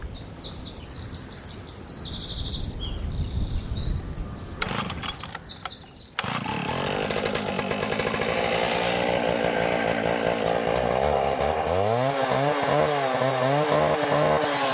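Bright spring birdsong with chirps and trills gives way to a chainsaw roaring to life at Redwood Market Garden in Lura, North Tipperary, its loud buzzing whine rising and falling steadily as it cuts, drowning out the birds.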